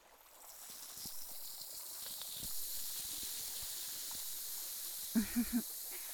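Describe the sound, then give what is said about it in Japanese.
A steady fizzing hiss of carbonated liquid being poured to rinse off something slimy runs throughout, bright and airy, with three quick soft pulses near the end. No one speaks. “ぬるぬるの後はシュワシュワだよ。 というわけで流します。”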